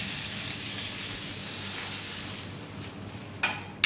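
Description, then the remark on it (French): Fish fillets sizzle steadily in hot olive oil, a continuous crackling hiss with a few sharper spits near the end and no talking. “la pulpe contenue dans l'huile d'olive brûle à 80 degrés. Voilà, et on dépose nos filets de poisson.”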